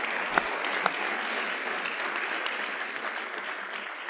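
A crowd applauds steadily for about four seconds, a dense, even wash of clapping with a couple of sharper claps standing out near the start, no voices over it.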